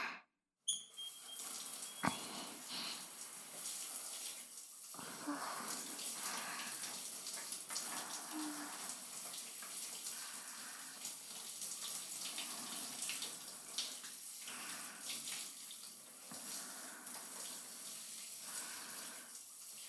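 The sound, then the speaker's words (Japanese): Water runs steadily, a continuous splashing spray like a shower rinsing soap foam off someone's body, with small shifts in flow and no voices. “じゃあ泡を流しちゃいますから。”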